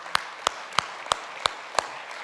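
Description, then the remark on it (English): Six sharp, evenly spaced hand claps in a slow, steady rhythm, each a crisp crack over a faint background hiss, with no talking. “You should clap for that too.”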